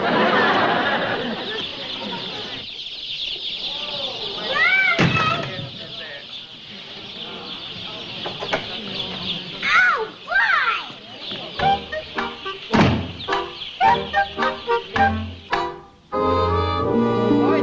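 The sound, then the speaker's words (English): A crowded flock of chickens clucks and peeps nonstop, sharp chirps and throaty clucks overlapping in a busy chorus that swells and breaks into quick bursts. “Noisy little fellows, aren't they? Yeah, they have strong lungs. You can hear them all the way from the den.”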